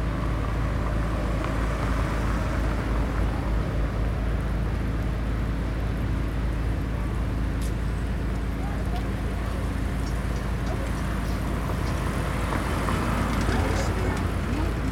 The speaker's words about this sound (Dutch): Oké, we weten nu dat de auto's links van ons zijn.